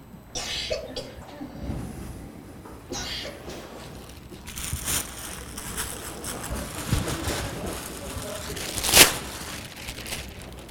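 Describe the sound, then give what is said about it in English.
A plastic bag crinkles and rustles in uneven bursts, mostly soft with scattered crackles, building to one sharp, loud crackle near the end. “Plastic bag. Does that look dangerous?”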